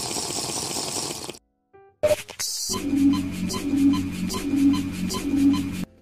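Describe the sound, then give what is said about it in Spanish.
Water being poured for a drink: a rushing splash, a brief silence with a couple of clicks, then a steady, fairly loud pour with a faint rhythmic gurgle. No one speaks. “Bueno, pausita para tomar agua.”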